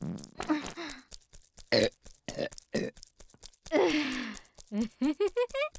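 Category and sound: human body sound, burp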